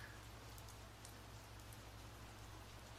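Steady rain patters against a window, a soft continuous hiss with scattered brighter drops and a low hum underneath. No voices, just the even wash of rainfall.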